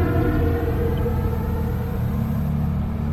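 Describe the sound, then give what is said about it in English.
A big truck rumbles past on Route 23, a highway, its deep, steady engine drone filling the low end, loud for a few seconds with constant road noise. “Listening to the passing cars and fossil fuel emitting trucks on Route 23. There's a big truck.”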